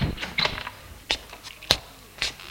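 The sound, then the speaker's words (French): A series of sharp knocks on a bedroom door, irregularly spaced over a couple of seconds, with one louder rap near the middle and some faint rattling between the hits. No one speaks. “On frappe à la porte.”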